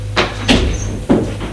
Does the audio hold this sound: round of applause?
no